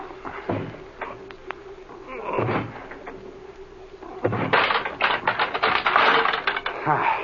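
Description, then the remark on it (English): A locked door with a flimsy lock is forced open by shouldering it: a few heavy shoves and thumps, then a burst of loud rattling, creaking and clattering metal as the lock gives way, with no talking. “Come on here, put your shoulder to this door. It doesn't have much of a lock.”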